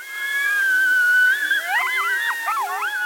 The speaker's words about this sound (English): sets up a device that calls coyotes. It can mimic howls or prey in distress.